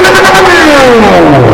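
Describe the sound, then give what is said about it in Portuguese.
A loud car engine revs, its pitch sliding steadily downward over a second and a half as it eases off, with a gritty, rumbling roar throughout. “Ah, vem com o carro pra cá!”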